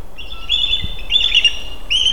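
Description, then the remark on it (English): A bald eagle's high, chittering call rings out in several rapid, twittering bursts, clear, in the Alaskan wild, over a faint background hiss with no one speaking. “That skittery call is a bald eagle.”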